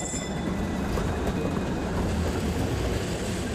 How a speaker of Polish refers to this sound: Stajemy na przystanku Bytom Urząd Pracy, a ja przez okno patrzę na wyświetlacz i numery tramwajów, które nadjadą po nas.